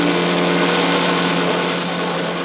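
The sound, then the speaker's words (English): A race car's engine gives a loud, continuous roar with a strong, buzzing tone as it thunders past a shuddering red Ferrari on a winding highway to take the lead, holding steady for a couple of seconds, then easing slightly toward the end. No voices. “As the shuddering red car drifts to the right, Lucky seizes the opportunity, thundering by for a slight lead.”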